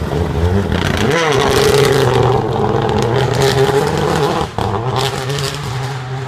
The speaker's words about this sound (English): So I thought, what's the worst sounding rally car I could possibly think of? And I remember seeing the Renault Clio R3 on Rally GB a few years back, and it is without doubt the worst sounding rally car I've ever heard. And here's a clip of it.